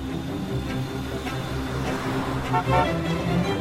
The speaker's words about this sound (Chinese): 哎，汽车的喇叭声跟火车的不一样哎。